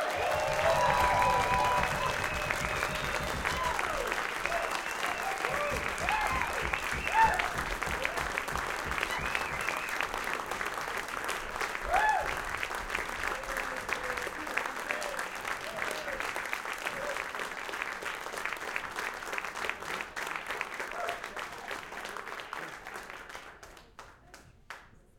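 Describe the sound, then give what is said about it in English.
A large audience bursts into loud, thunderous applause, a dense, steady roar of clapping with scattered cheers that holds for over twenty seconds before tapering off, as the musicians are welcomed to the stage. “I want a rumbling, thunderous applause as we welcome to the stage.”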